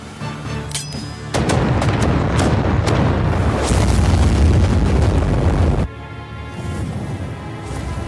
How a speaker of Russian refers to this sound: Тогда взрывайте то место, где считаете, что они могут быть. Простите, но сильный взрыв истощит всю нашу ману. Плевать, максимум ударной силы.